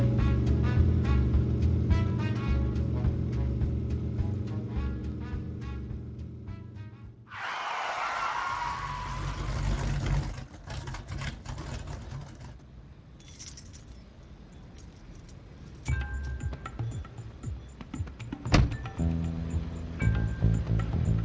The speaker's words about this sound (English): So I pointed my big Bach Mopar towards the library and did my best to obey all the traffic laws.